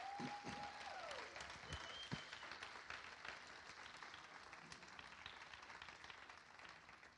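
Welcoming audience applause, a dense, steady wash of many hands clapping that holds for several seconds before easing slightly, with a brief tone and faint voices mixed in at the start.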